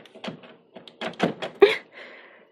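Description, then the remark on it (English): A fist pounds on a closed bedroom door in a burst of heavy, uneven thuds, about half a dozen blows, loud, with a short pause between the first few and the rest. “Are you hiding in your room? Open up! Open this door! I know you're in there!”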